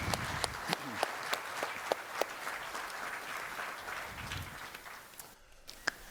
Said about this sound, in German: einen großen Applaus für unsere Vortragende.